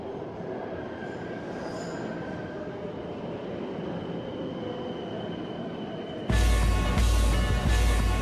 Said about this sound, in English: New York, present day. In a packed subway, commuters are making their way through a passageway.